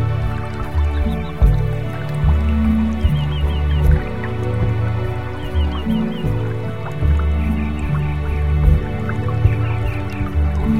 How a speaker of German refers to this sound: In der Ferne hörst du einen Bach rauschen und der Duft von frischem Gras steigt dir in die Nase.